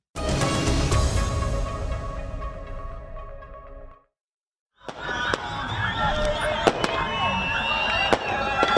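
Dense crackling fireworks and repeated sharp bangs burst over a noisy crowd of people shouting and cheering in Mosul, Iraq, celebrating its liberation from the Islamic State, with a brief silent gap before the loud celebration resumes.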